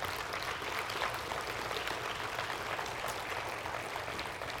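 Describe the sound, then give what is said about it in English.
An audience claps steadily, dense overlapping applause at a constant level for several seconds, with no voices standing out above it, applauding a food donation going to food banks in Raleigh and Wake Forest. “Let's give these guys a round of applause again.”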